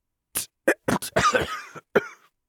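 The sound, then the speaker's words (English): A woman has a harsh, phlegmy coughing fit: several sharp bursts in quick succession, then a longer rattling hack and one final cough, fairly loud with no talking. “She broke into a rough, wet cough.”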